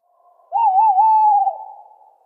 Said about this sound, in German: Das ist der liebe Waldkauz. Der Gesang. Oder die Waldkäuzin. Ja, genau. Der Gesang des Männchens.